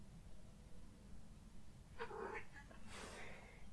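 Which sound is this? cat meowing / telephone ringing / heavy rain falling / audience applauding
cat meowing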